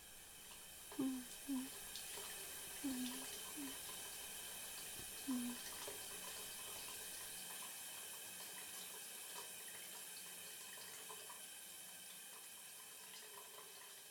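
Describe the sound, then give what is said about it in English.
Warm shower water runs in a steady, even hiss for the whole stretch, with a few brief low murmurs or squeaks popping up in the first few seconds. “You just stand under the warm water, close those eyes.”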